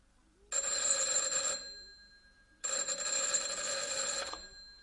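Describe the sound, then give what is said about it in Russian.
A telephone bell rings in two loud, clattering bursts, a short ring followed by a pause and then a longer ring that continues to the end, with no one talking. “Телефон.”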